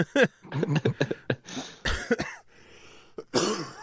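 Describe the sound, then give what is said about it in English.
A person coughs repeatedly in a harsh fit, several raspy bursts coming in quick clusters with short pauses between them and no talking. “No, I'm probably going to cough to death, which again I apologize profusely for.”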